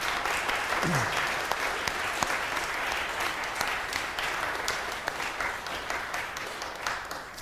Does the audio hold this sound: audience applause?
yes